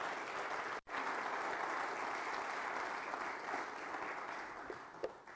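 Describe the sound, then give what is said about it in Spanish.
A church audience applauds the Lord in thanksgiving, a dense wash of clapping from many hands that holds strong for several seconds with one brief cut near the start, then tapers slightly. “Dele un fuerte aplauso al Señor en acción de gracia.”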